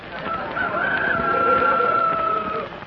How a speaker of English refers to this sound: Chickens, partly.